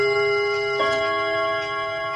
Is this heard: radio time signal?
yes